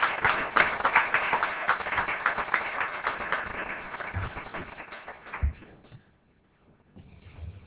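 An audience applauds to welcome Undersecretary Acciarini, a dense patter of many hands clapping at a steady level for about five seconds before thinning out and fading to near silence.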